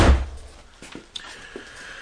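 The door of the superintendent's office at a police station shuts with a single heavy thud, followed by a couple of faint clicks as the latch settles, with no one speaking.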